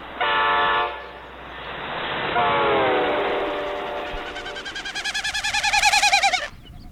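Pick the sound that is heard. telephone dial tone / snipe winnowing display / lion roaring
snipe winnowing display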